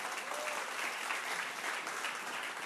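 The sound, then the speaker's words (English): An audience at a midweek church Bible study claps steadily throughout, a dense, even patter of many hands with no pauses or voices standing out, sustained at a fairly constant loudness. “Give yourself a round of applause, really.”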